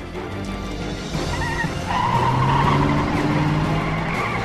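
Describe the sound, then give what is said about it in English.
A hijacked flatbed truck's engine revs hard as McCarthy races it away while tires skid and squeal, a rising whine layered over a loud, rough rumble that builds and holds for several seconds. “She, however, climbs in next to McCarthy, who races away.”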